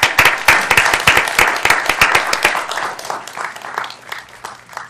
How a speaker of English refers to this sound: Where are you all? Oh, well, they're up there. Hi. You can all clap and welcome them here.